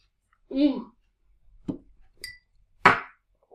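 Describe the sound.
A short voice is followed by a couple of dull knocks and one light, ringing clink of glasses touching together in a toast, fairly quiet.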